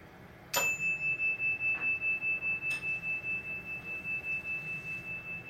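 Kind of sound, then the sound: signal or alarm, bell ringing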